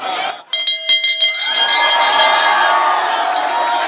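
A hand bell, called the freedom bell, rings with several quick clanging strokes, its bright metallic tone lingering and shimmering afterward over a noisy crowd cheering in the background.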